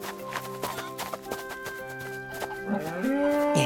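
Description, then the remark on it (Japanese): A cow moos over a steady tonal backdrop, its low drawn-out call swelling louder and rising in pitch near the end, with other farm-animal noises from pigs, sheep and chickens scattered faintly around it, caged in a palace backyard. “確かに動物の鳴き声のようなものも聞こえるな。”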